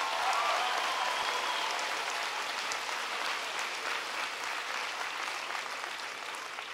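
A crowd claps steadily, a dense wash of many hands that stays fairly even throughout before easing slightly toward the end. No one speaks over it.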